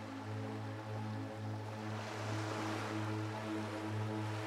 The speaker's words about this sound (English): Imagine the waves continuously going back and forth, swirling around your feet.